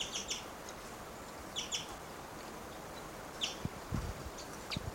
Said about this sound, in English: Wild bird. Recording that male is coming down. He's giving little cuckoo-like calls.